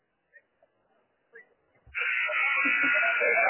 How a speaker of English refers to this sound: And then first buzzer, 1 minute buzzer. And ask the guys to come over to their respective areas.